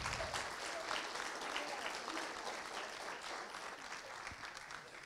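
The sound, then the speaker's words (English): Steady audience applause, a dense wash of many hands clapping at an even level for several seconds with no voices standing out above it. “Would you guys give them a round of applause?”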